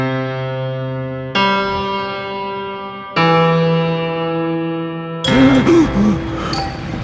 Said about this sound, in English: He heard the same three notes he had been hearing in his dream. The conductor was walking down the aisle of the car, striking a three-note xylophone.